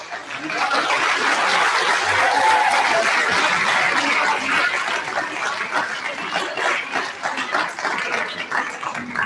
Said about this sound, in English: All right, so let's have a nice round of applause for all of our Language Arts League winners.